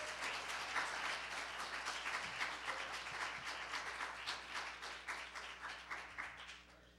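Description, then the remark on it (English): A church audience breaks into sustained applause in praise of God, many hands clapping together in a dense, steady roar for several seconds without anyone speaking. “Give Him a hand clap of praise.”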